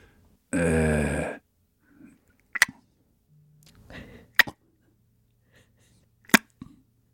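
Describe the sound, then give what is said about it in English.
A person imitates echolocation with three sharp, bright mouth clicks spaced about two seconds apart, after a loud, brief voiced burst at the start. Soft breathy sounds fall between the clicks. “Can you repeat the echolocation sound that you presented to us, the clicks?”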